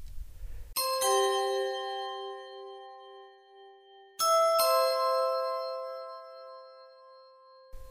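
A large New Year bell rings out twice to mark the arrival of 2006, each strike a quick double hit followed by a long, shimmering decay. The tolling is loud, with no voices alongside.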